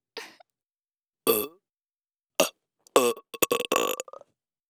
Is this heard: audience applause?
no